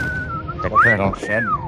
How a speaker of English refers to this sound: They're dropping whistles on us again, Sarge.